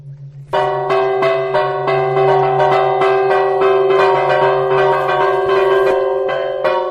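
Church bells of about 400 kilos each ring the 'A Minerva' peal played on Corpus Christi, a lively, continuous peal, loud, with rapid repeated strikes layered over a sustained low hum, and no voices present.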